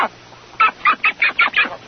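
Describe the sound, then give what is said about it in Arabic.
A wild mallard duck quacks six times in a quick, evenly spaced series, the harsh calls loud against a quiet background with no one speaking. “تتميز بطة مثل البركة، وهي بطة برية بوترات بين أصابع رجليها تجعلهما كالمجداف.”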